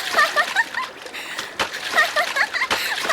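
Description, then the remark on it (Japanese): Lively splashing in river water, with repeated bursts of sloshing and spattering as someone thrashes and plays in it, with faint voices mixed in. “本物の川だよ。”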